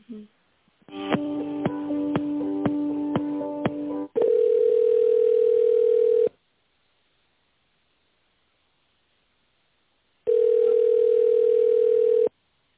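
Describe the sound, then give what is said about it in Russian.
Over a phone line, while a call to the company Technas is transferred to an extension, a short chiming electronic jingle gives way to a long steady ringing tone, then silence for about four seconds before the same flat tone sounds again. “Можно, переключаем.”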